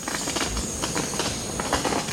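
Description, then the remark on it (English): A 20-inch-tall male Montezuma oropendola, perched beside its nest among the ruins of a Mayan city in dense forest, gives a run of sharp, dry pops like small firecrackers, irregularly spaced, set against a steady background hiss. “He sings again, this time with a sound like the pop of firecrackers.”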